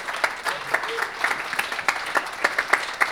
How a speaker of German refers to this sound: Applaudiert auch euch mal dem Publikum, das ist auch mal schön, es war ein gutes Publikum.